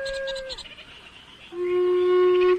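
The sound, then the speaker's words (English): Birds call by the Kaitoki River on Aotea, Great Barrier Island, heard from a kayak with no wind: a short, clear, tonal call, then after a pause a longer, steady, harmonic-rich call. No talking. “All I can hear is a few birds,”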